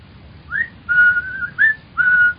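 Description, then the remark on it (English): A young man standing in front of a window with his hands in his pockets whistles a short tune of four clear notes, some rising, some held steady, moderately loud over a faint low background hum, with no talking. “The other, a bull-necked youth with coarse, bloated features, was standing in front of the window with his hands in his pockets, whistling.”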